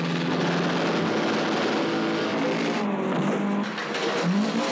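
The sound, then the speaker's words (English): The engine of a Lotus car that can go underwater runs loud and steady through water, a continuous droning rumble with a broad churning wash, its pitch shifting slightly toward the end. No one speaks. “So there we really do have a car that can go underwater.”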